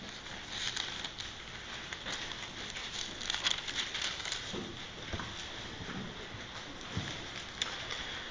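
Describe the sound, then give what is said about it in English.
Many Bible pages turning at once as people turn to Ephesians chapter 4, a steady papery rustle broken by scattered soft flicks and crackles over several seconds, with no talking. “Here's some pages turning.”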